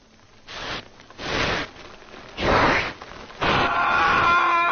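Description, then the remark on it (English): A cockroach being crunched: four short, gritty crunching bursts in a slow, uneven rhythm, the last one longer and mixed with a high, squeaky tone. No one speaks. “Crunch. Over.”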